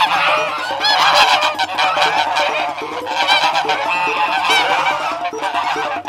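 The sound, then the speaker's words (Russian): A flock of geese honking loudly and continuously, many overlapping nasal calls forming a dense, raucous chorus with no talking. “А гуси догоняют, за попу щиплют.”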